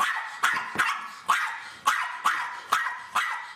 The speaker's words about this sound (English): One night, Patches couldn't sleep. He smelled a scary smell. Barked Patches.